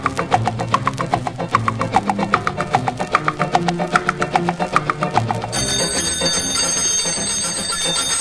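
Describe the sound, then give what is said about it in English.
A loud alarm clock bell rings in rapid, steady bursts for about five seconds, then cuts off into a continuous hissing, humming background. No one speaks. “Doggone clock goes off in the morning, wakes me up without any warning.”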